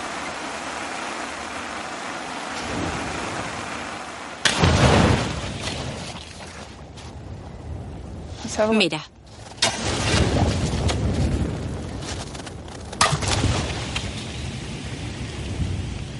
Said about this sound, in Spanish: Estas antorchas que estamos haciendo demuestran que las burbujas contienen metano. Es un gas de efecto invernadero muy potente.